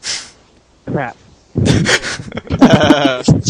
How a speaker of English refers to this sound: I turned my mic sensitivity now because you can hear me breathing. Now I have to turn it back.